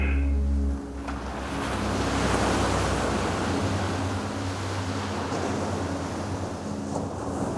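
Ocean waves wash steadily onto a shore in a continuous, fairly loud rush of surf, with a brief low rumble at the very start and no voices.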